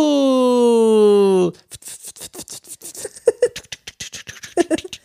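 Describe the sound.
A voice imitates a person's snoring snort at night: a buzzy, sustained voiced drone for about a second and a half, sinking slightly in pitch, then a rapid train of crackly, rasping pulses.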